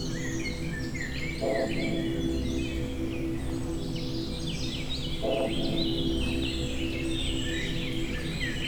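A dense chorus of birds sings and chirps continuously in a forest in the Creuse, France, between cloud and sun, many overlapping high calls over a steady low background rumble with no one talking.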